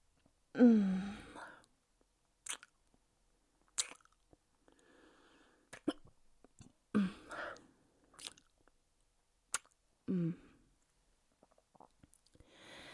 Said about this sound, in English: I moaned so hard I got fucking hiccups. I had like a coughing fit because I was moaning so hard and my throat was dry. And now I have hiccups. I don't think that's ever happened.